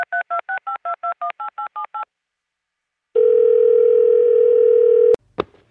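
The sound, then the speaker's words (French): A telephone call to the answering machine of the radio station Radio G going through: about a dozen quick keypad beeps, a pause, then a steady two-second line tone that cuts off with a sharp click as the line picks up. No one speaks. “J'ai écouté le répondeur téléphonique de la radio, ça va pas du tout.”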